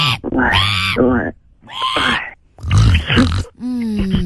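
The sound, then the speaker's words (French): A person imitates a sow with a series of loud vocal grunts and snorts in several bursts separated by short pauses. “Moi, je te fais la cochonne, alors.”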